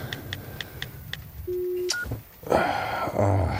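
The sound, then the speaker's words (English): Five quick, evenly spaced keypad beeps from a phone being used to send a text, followed by a longer low electronic tone and a short higher bleep, then a burst of rustling and background noise. “I better text Debbie, tell her she's sleeping alone tonight.”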